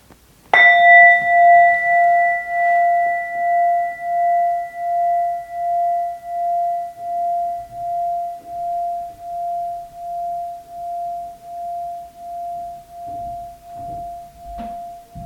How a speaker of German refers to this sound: Wir hören auf den Klang des Gongs, wie er verklingt.